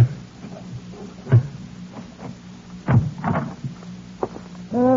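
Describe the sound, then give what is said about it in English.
A door being worked open: a run of wooden knocks, rattles and dull thumps at uneven intervals, with a louder clunk near the end and a brief creak as it gives way. No one speaks. “Sorry it took so long getting the door open.”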